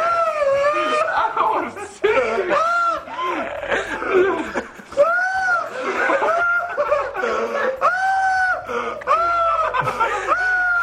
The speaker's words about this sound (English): You scream like a woman.